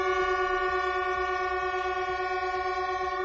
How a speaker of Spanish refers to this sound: Lo que sí han hecho ha sido un homenaje a su compañero fallecido, a Pablo, el maquinista de Alcorcón que conducía el Albia siniestrado. Lo hacían en la estación de Chamartín, haciendo sonar las bocinas de todos los trenes.